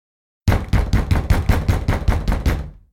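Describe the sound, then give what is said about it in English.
Fists numb with cold pound the heavy front door of a big house in the snow, a rapid, steady run of about ten loud booming thuds with no voices, fading out with a short ring afterward. “stumbled up the porch steps and banged on the heavy front door with his hands numb with cold.”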